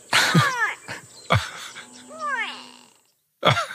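bird, grey go-away-bird call

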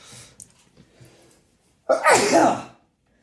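human body sound, sneeze

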